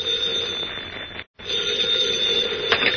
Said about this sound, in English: In his hotel room in the state capitol, Editor Perry White, mayor of Metropolis, has his hat and coat on and is about to leave the room when the phone rings.